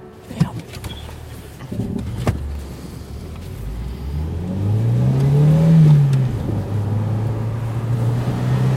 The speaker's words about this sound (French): mais donc le mec, il s'est installé côté conducteur et il s'apprête à partir. Et il part même, il démarre, j'ai l'impression. Oui, il démarre.